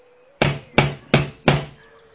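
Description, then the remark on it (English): Four firm knocks on the door of Pooh's house in a steady, evenly spaced rhythm, each a sharp thud with a brief ringing decay, with no voices. “What a long time whoever lives here is answering this door.”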